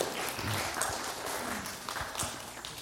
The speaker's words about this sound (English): Good job. You can clap for these people.